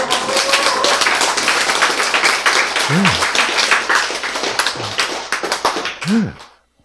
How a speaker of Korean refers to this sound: 근데 이렇게 얘기하면 박수가 나와야 되나?